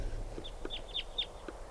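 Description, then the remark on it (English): Flight calls of three type 2 crossbills flying over: a quick series of short, sharp, high chips, some doubled, repeating irregularly over steady low background rumble with no voices. “Three type 2 birds are just flying over.”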